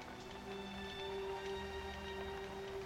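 Soft, steady rain patters in the background, a quiet continuous hiss with faint scattered drops over a low, constant hum, with no voices.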